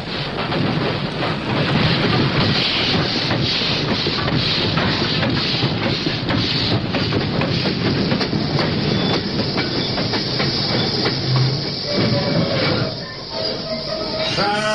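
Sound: train arriving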